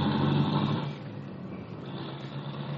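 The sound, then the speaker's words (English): A car engine drones steadily as it drives through heavy traffic, a continuous rumble with a low hum and broad road noise, even in loudness throughout, with no voices. “there's too much traffic here to go much faster.”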